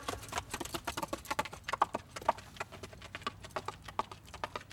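Horse hooves clip-clop in a quick, steady rhythm, each sharp knock distinct over a faint low background rumble, with no voices.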